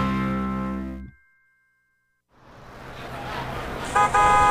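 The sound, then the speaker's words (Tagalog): A loud, sustained jeepney horn blares, falls silent for a moment, then gives way to rumbling street traffic before a second bright honk cuts in near the end. “Tara na! Yan na yung jeep!”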